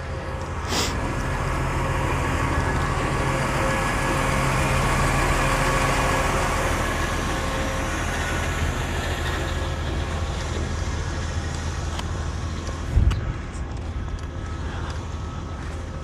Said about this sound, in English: There's a trash truck here that's sort of parked by the side of the road. I can't tell what the hell he's doing.